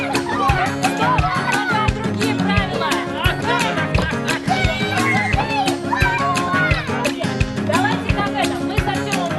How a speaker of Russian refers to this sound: И у нас по этой линии внуки. Вот двое где-то тут бегают.